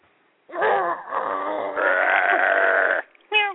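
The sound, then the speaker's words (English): A person does a loud, sustained growling imitation lasting about two and a half seconds, rough and rasping with a rising strained tone, followed by a short gruff vocal burst. “Where's your growl?”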